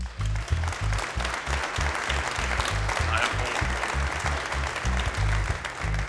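Steady applause from an audience fills the whole stretch, dense and sustained at moderate loudness, with a rhythmic low thumping running underneath the clapping.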